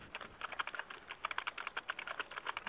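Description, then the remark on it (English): Rapid, irregular clatter of keys being typed on a computer keyboard, a steady stream of quiet, crisp clicks with no one speaking. “I hear a keyboard warrior.”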